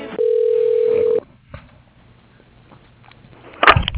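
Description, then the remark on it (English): A telephone line at the Hampton Inn at Bush Airport rings once as the call is transferred to the operator, a steady, mid-pitched electronic tone lasting about a second, then falls to faint line hiss before a short crackly burst at the end. “You are being transferred to the operator.”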